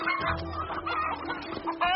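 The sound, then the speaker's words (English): A chicken clucks busily and continuously, its short squawky calls tumbling over one another with a sharper, louder squawk near the end. “forget the chicken.”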